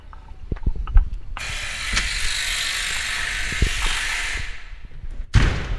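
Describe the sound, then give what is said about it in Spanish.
A few mechanical clicks, then a loud electric door-lock buzz that drones steadily for about four seconds before cutting off, followed by a short rattling clunk as the door is pushed open. “Madre mía, cómo ha sonado la puerta.”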